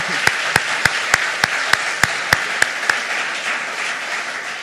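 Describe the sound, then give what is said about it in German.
A crowd applauds steadily after a children's nativity play, with about ten loud, evenly spaced claps punching through in rhythm at first before the applause carries on as a dense, even patter. “Das ist nochmal ein Applaus wert, genau.”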